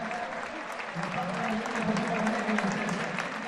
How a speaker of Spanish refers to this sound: Bueno, pues aplaudo con mucha gente de pie también para aplaudir el gran esfuerzo de Soco, que es un titán.